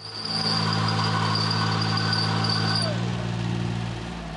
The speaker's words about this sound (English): The vicar sits on a lawnmower as she cuts the churchyard grass.